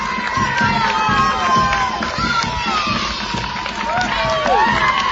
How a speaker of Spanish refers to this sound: Y que provoca que solo se pueda mover en silla de ruedas, que era como entraba ayer al cole en medio de un pasillo de aplausos.